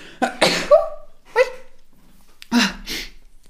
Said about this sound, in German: Oh, ich muss niesen.